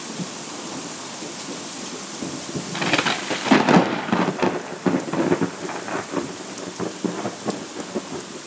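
thunder and rain

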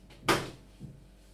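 oven door opening

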